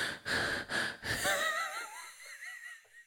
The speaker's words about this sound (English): Just close your eyes and listen to my breathing really creepily.